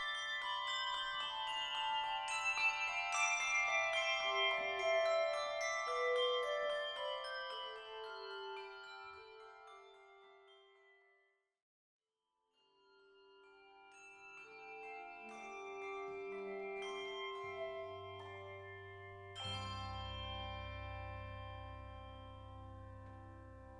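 The Westminster Concert Bell Choir, a handbell choir, rings out the 1850 Christmas carol It Came Upon the Midnight Clear by Richard Storrs Willis in overlapping bell tones that shimmer and decay, pausing briefly midway before resuming with fuller, deeper chords. No voices are heard.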